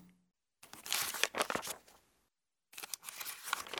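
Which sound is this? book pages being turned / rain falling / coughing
book pages being turned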